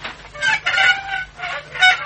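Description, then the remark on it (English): A door creaks open with a drawn-out, squealing groan, its pitch wavering through several strained pulses. There is no talking, only a faint steady hum underneath. “Now, to open this door.”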